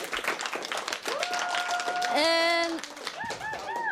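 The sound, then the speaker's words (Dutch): An audience in a hall claps steadily for several seconds to welcome an expert, a dense round of applause with whistles and whooping cheers rising over it toward the middle and end. “Ik wil graag een groot applaus voor onze derde expert”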